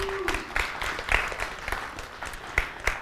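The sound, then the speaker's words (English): An audience breaks into steady applause for the helpers, many hands clapping together in a dense, moderately loud patter with a few sharper claps standing out, no voices heard. “Big round of applause for our helpers.”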